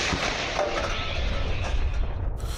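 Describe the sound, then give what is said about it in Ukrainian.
An old artillery gun on an aging vehicle base fires, a heavy blast that rolls into a sustained, rumbling roar lasting a couple of seconds before it begins to fade. No one speaks. “Постріл!”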